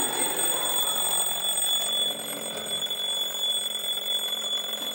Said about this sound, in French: Faire sonner le réveil. Aïe, aïe, aïe, aïe. Ce matin, il a sonné un peu plus tôt que d'habitude.